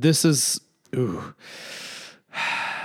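A few short, throaty coughs, followed by two long, rough breathy exhales with brief pauses between them, heard on their own without talking.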